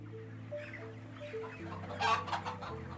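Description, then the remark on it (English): Many chickens cluck and squawk together in a chicken shed at Lower Farm in Derbyshire, England, a busy overlapping chorus over a steady low mechanical hum, with a louder burst of calls near the end. “It's run by David Speller, who's pioneered the use of CCTV and CO2 monitors in chicken sheds.”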